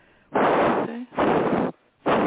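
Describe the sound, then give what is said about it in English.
Heavy, labored breathing from a person with poor lungs blasts right into a microphone, three loud, rough breaths in a steady rhythm, one trailing off with a faint wheeze. No one speaks. “It's because my lungs are pretty shot today.”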